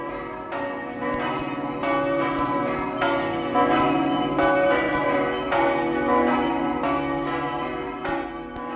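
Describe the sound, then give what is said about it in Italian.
Village church bells ring in a steady, overlapping peal, each strike blooming into a rich, lingering tone, full, with no voices over them. “perché quando si è lontani di casa, ogni campana della nostra terra è la campana del nostro paese.”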